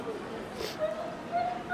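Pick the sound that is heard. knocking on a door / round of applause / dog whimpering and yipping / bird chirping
dog whimpering and yipping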